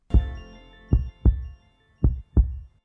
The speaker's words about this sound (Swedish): den här patienten har en tät aortastenos. Lyssna på det här, det låter fett så här knivigt